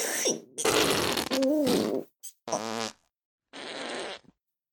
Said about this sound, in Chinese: 长达十分钟的恐怖放屁终于落下了帷幕。